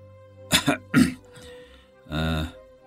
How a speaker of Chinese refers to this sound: 然后他咳嗽了两声。